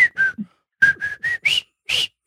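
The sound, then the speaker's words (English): A person whistles a short tune, about eight breathy, choppy notes with brief gaps, the pitch climbing toward the end. No talking over it. “I can sing, but I can't whistle, but I'll try.”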